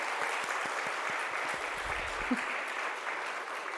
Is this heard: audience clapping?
yes